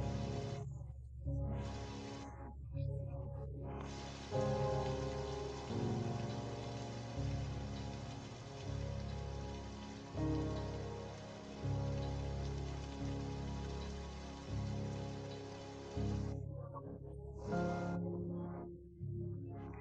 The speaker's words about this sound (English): When you have taken each and every one of the rocks out of that backpack, you suddenly notice that the rain begins to stop and that little by little it disappears.